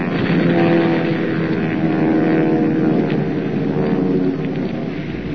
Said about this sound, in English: As though in answer to Superman's taunt, a huge 1,000-pound bomb detaches itself from the undercarriage of one of the planes and comes screaming down on the gabled roof of the tiny base hospital.